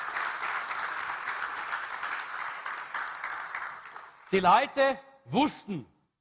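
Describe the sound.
A church audience applauds the Lord in a steady, dense patter of many hands for about four seconds, then the clapping fades and a voice starts speaking.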